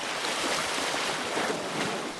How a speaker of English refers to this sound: In nearby Rosetta, the Nile finally gives way to the sea. The sound of water lapping against the rocks is a quiet ending to a long story, the longest of its kind.